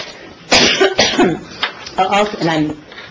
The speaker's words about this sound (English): I promise you, I'm not contagiously sick, but I have a cough that seems to come when I talk.